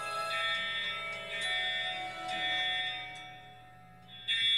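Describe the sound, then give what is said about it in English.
A fire alarm rings continuously, a shrill, steady tone that holds for the whole stretch with slight swells in loudness. No one speaks over it. “Fire alarm. What are you talking about?”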